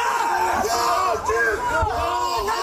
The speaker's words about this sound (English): The anti-American mob yelled, "Yankees go home."